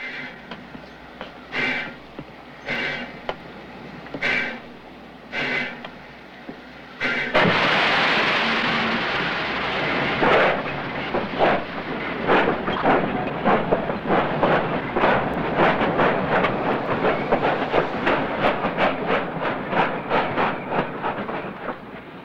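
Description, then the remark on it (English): A steam locomotive, driven toward the station in the center of town, chugs in slow, evenly spaced puffs, then releases a loud burst of hissing steam before its chuffing quickens into a rapid, steady rhythm, fairly loud. “Clouds of steam bellow out as Joe guides the locomotive towards the station in the center of town.”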